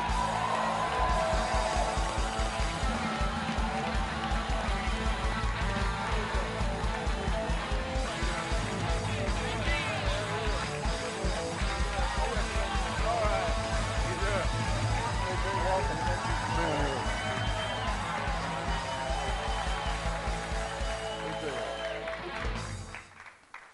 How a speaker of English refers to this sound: It's a good crowd. You guys are excited.